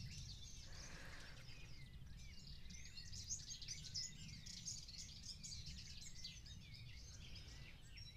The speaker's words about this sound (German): Hör vielleicht das Vogelzwitschern, was ich hier höre.